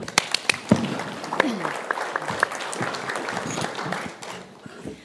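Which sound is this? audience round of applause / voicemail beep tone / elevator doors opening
audience round of applause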